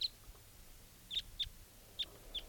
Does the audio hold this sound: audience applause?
no